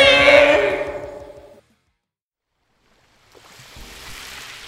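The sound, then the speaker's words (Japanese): Loud rushing surf of the sea at sunset, with a big sun sinking below the horizon, swells and fades to silence, then a softer wash of waves returns and keeps breaking steadily, with no voices. “でっけえ夕日が水平線に沈んでいきますね。 海もあんなに真っ赤に染まって綺麗ですね。”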